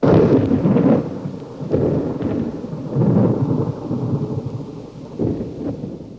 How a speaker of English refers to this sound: But there was a very good reason for their coming out in August. They badly wanted the sound of a storm in the canyon, and August is the storm season out here.